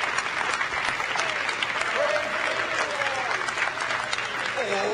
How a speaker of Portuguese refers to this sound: Louvai o nome do Senhor! Vamos bater palmas para Ele!